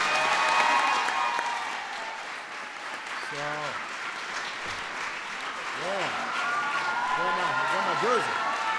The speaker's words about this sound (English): So I really want to congratulate them on an incredible 2012 season. We wish them the best of luck in 2013. Everybody give the Indiana Fever a big round of applause.